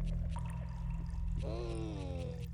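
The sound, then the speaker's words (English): Soft water drips and trickles in the background over a steady low hum, with a few distinct drops and a brief tonal, voice-like sound partway through. “There's like soft water dripping in the background.”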